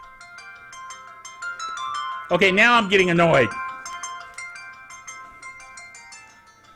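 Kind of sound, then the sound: household object, phone ringing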